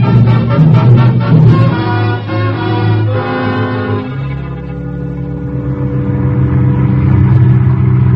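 A car engine starts pulling away, revving with a rising hum that drops into a lower, steady drone after a few seconds as the car drives off to the edge of the city. The sound stays loud throughout, with no voices.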